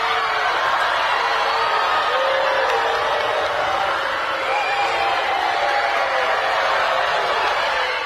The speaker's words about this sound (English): Wasn't necessarily one of the worst booing moments of all time, but I was watching and I thought, that's humiliating.